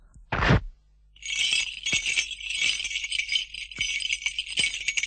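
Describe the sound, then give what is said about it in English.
A brief clatter opens, then a steady, high, shimmering jingle of bells rings on without pause, thin and tinkling, as if far away, with no voices. “Arthur, said Mavis, can you hear some lovely bells ringing far, far away? There they go again.”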